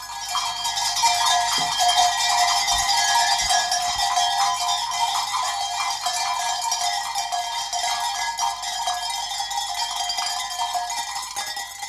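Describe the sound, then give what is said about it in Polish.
A dense jangle of many hammered metal bells of various shapes and sizes, hung on the necks of a flock of sheep unseen in the fog in the Tatra mountains, clanking continuously at mixed pitches with steady irregular ringing and no voices. “Dzwonki najrozmaitszych kształtów, a więc wielkości, wydają rozmaite wysokości tonów.”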